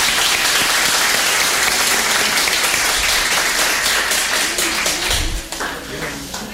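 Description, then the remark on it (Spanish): An audience applauds steadily, a dense wash of many hands clapping at an even level before thinning slightly near the end. “Bueno, el aplauso.”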